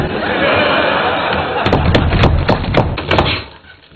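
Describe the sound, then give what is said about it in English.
Someone struggles to open a stuck car door with the car key put in the door lock: a quick series of about seven sharp thumps and rattles, fairly loud, over a steady background hum before fading out. “Yes, I can't get my stupid door open.”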